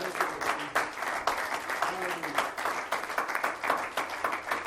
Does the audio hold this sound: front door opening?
no